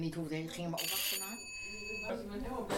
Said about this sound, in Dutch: Dan gaat de bel en komt de eerste buur binnen.